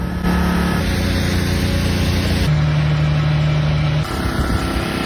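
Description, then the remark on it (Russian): A petrol-powered generator running in Crimea: a steady, droning engine hum runs throughout with no speech, its low tone shifting slightly in pitch partway through before settling again. “В итоге весь Крым живет на генераторах, и днем, и ночью слышен их мерный гул.”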